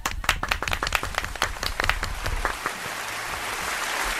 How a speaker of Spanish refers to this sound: Oye, el aplauso del día para Guarromán. Venga, chicos.